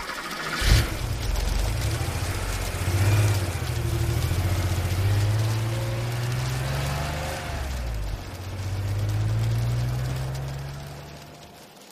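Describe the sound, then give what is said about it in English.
Car engines in the car park of a block of flats in the evening: an engine rumbles after a brief sharp knock, its pitch rising and falling as it revs and pulls away, with no one talking. “I could hear cars starting up and setting off all evening, and from time to time I looked out at our car park and I could see that it was almost empty.”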